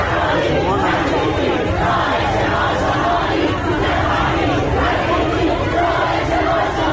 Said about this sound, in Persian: گوش بدین الان این شعار مردم جلوی آموزش پرورش منطقه 5 تهرانه.